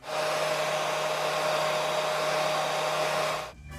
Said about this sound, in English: Well, I don't know if it's wind, but that sounds like a vacuum. It was a hairdryer.